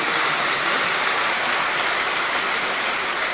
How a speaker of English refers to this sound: Are you making double efforts? Very good. So you should clap for that.